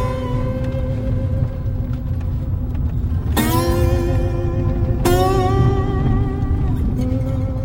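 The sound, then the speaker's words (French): Steady low rumble of a car's interior while driving, a car fitted with extra sensors arriving in a zone where it can drive in autonomous mode, with a constant engine hum and two brief sharp tonal chimes partway through, no talking. “Donc là, en fait, on arrive dans une zone où on peut rouler en mode autonome.”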